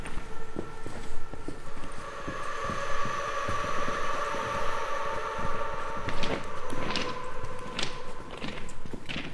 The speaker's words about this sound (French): C'est le viaduc de Senorme qui permet lui aussi de gagner quelques dizaines de mètres. Mais c'est un viaduc en plein air et qui est spectaculaire lorsque les trains y passent dessus.